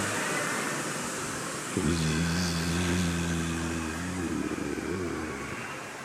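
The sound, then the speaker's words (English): A group of people, asked to be much louder, makes a low, steady buzzing drone imitating bumblebees, holding it for a couple of seconds before it breaks up into looser murmuring hums. “So some of the gopas were imitating the sound of the bumblebees. Everyone, please.”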